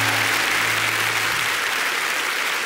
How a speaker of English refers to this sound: Go ahead, give them an applause. They'll shut up, all right?